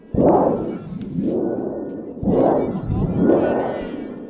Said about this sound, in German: Und dann geht die Geschichte so weiter, Prospero entfacht einen Sturm und da braucht man ein Donnerblech, das dürfen die Zuschauer bedienen. Das wollte ich natürlich unbedingt ausprobieren.